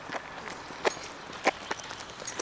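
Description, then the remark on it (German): Footsteps crunch along outdoors at an unhurried walking pace, a handful of soft scuffing steps over a quiet background with no voices. “Und zwar, wenn wir jetzt noch ein paar Schritte weitergehen, dann kommen wir an so ein kleines Gewässer.”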